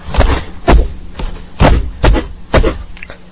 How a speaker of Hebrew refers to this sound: והתקרב לאט לאט לדלת, ממראש התחיל לדפוק בדלת.